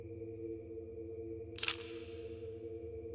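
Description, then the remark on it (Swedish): A single crisp camera shutter click sounds midway, sharp, against a steady low electrical hum on a quiet night. The camera is shooting a timelapse, set to take one picture every 5 seconds. “Kameraljudet ekade nästan i den tysta natten.”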